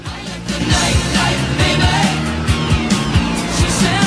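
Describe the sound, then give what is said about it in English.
A car engine hums steadily and loudly as the vehicle rolls along the street, with a low rumble and a few shifting tones over about four seconds, no voices. “They start the car, and it cruises down the street.”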